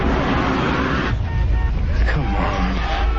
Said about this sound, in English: In a car, Bookman sits in traffic.